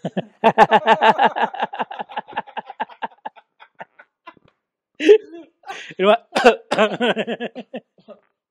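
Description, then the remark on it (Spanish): A run of rapid, strained vocal bursts that fade out, then a few harsher, louder coughs after a short pause, with no other sounds around. “Se tira un pedo y se prueba mezclando con tos.”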